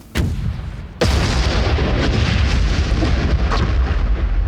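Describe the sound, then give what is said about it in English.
Ukrainian artillery fire on a company of Russian troops hidden in a forest near a farm: two sharp, heavy blasts about a second apart, the second launching into a sustained, rumbling roar of booms and crackling that continues loudly without any voices. “"Hit them with artillery."”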